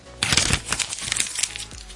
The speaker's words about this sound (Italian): Ma sentiamo il calendario, perché abbiamo detto che giorno è, ma non abbiamo sentito il calendario che si stacca.